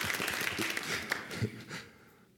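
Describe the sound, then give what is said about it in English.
An audience applauds the speaker's mention of soon being married for three years, a dense, steady patter of many hands clapping together, holding fairly loud before gradually thinning out and fading away at the end. “I don't know if I've gotten that applause just a few days ago, but that's another story, okay?”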